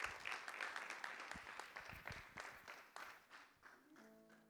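An audience applauds steadily, a dense wash of many hands clapping at close range, fading slightly toward the end as a faint musical tone enters.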